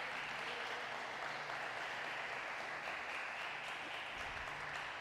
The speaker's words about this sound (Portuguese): Você pode dar uma linda salva de palmas para Jesus?